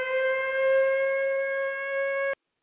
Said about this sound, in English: When you hear the tone, and the tone is going to be the air raid siren, so y'all have got to listen for this. We'll see if we can get it to go. There it is, right there.